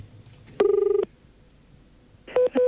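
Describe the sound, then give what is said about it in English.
A telephone number is dialed to call the Whyalla News: a buzzing, rapidly pulsed electronic tone for about half a second, a pause, then a couple of short beeping tones, fairly loud with no voices. “Here's a bit of dialing for the aficionados.”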